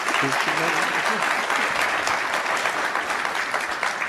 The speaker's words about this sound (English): The applause you just heard was from members attending the Association of Washington Business Summit earlier this month. Gregoire was invited to speak.